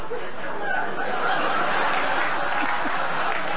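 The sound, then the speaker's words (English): A large audience applauding, a dense, steady wash of clapping that stays loud for nearly four seconds, with some laughter mixed in, as two audience members work their way to seats in the middle of the center row. “And that first laugh and a round of applause we got was not for me.”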